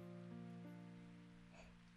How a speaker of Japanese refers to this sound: 雨はまだ降り続けているけれど、いつの間にか雷の音は聞こえなくなっていた。